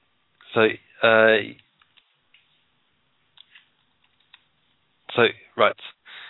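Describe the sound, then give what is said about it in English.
Sparse, soft keyboard taps click irregularly through a quiet stretch as a producer types a message, framed by short bursts of a voice talking at the start and end. “So, okay, let's see what she's just typing away.”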